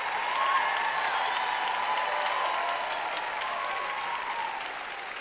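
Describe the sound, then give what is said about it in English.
A crowd claps steadily and loudly, a dense wash of many hands with occasional cheers rising above it, gradually easing off toward the end. “Come on, clap like it's a possibility.”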